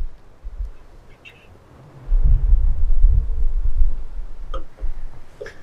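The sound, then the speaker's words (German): Glasses clink together in a toast by the Kalterer See (Lake Kaltern), a few brief, bright, ringing taps spaced apart, over a low rumbling thump of handling noise. No one speaks. “Komm, darauf müssen wir jetzt nochmal anstoßen. Auf das stoßen wir jetzt nochmal an, gell?”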